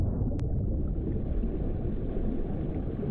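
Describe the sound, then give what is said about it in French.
An iceberg breaking apart underwater as a big piece of it breaks off: a deep, dull rumble like a muffled explosion rolls on steadily for several seconds, low and muffled, with a couple of sharp clicks at the very start and no voices. “Et puis soudain, un grondement, comme une explosion sourde.”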